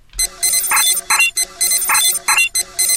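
A video game button-press sound effect: a loud, bright electronic jingle of buzzy high tones with lower blips, repeating in a quick looping pattern about every second, with no voices.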